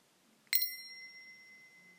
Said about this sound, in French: Pour terminer, tu vas entendre à nouveau le son de la cloche.